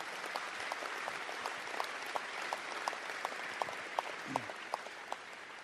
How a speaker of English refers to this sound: And let's give the state of New York and the people in it a round of applause.